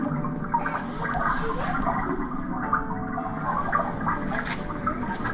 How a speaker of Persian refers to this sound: صدای آب هم میاد. چقدر قشنگه